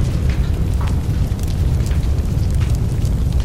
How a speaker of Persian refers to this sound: رو ماشین بنزین میریزه. ماشین آتیش میزنه.